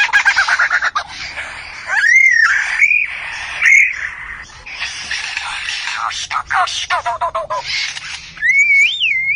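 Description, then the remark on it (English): A greater coucal (sembagam), a member of the cuckoo family living in the Indian subcontinent and Southeast Asia, calls in a loud series of rising whistles and harsh, chattering squawks, repeating irregularly over several seconds with brief pauses, with no one speaking. “The bird is a sembagam, or the greater kukal, a member of the cuckoo family.”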